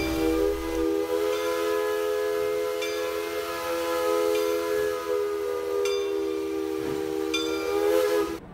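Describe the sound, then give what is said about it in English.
A train horn blows one long, loud, sustained chord, its steady harmonic tones holding for several seconds with a faint hiss underneath, with no one talking. “Knows the sound of a train horn, but do you know why trains have horns or what makes them sound like trains?”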